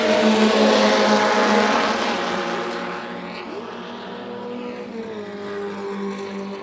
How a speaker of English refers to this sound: And we sat in the grandstand for a bit and watched some old cars going around, and we have a clip of us doing that.